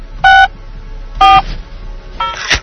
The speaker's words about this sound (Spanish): Es que veo que pone cuña teléfono, voy a ponerla.